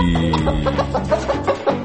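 A chicken clucks in a quick series of short, rhythmic bursts, clear, with no talking over it.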